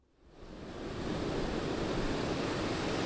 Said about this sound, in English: The chill winter wind has the Atlantic Ocean roiling. Angry shoulder-high waves beat against this postcard shore, inching their way towards some of the priciest real estate in the country.